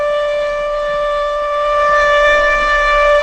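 A tornado warning siren sounds one loud, sustained tone with a buzzy, harmonic edge. It holds steady in pitch for the whole stretch and swells slightly toward the end, with no voices.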